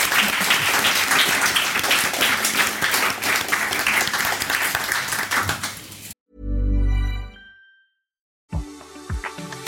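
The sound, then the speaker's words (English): A burst of dense applause with many hands clapping for about six seconds, then a sudden cut to a low swelling tone and a short rhythmic musical jingle. “Do we clap at this point? Yeah. Clap.”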